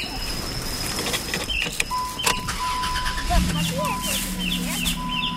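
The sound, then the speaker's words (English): A rental car's engine turns over partway through and settles into a steady low idle as the car starts off, while chickens cluck and birds chirp in an outdoor setting. “We start off in our rental car, heading back to my in-law's place.”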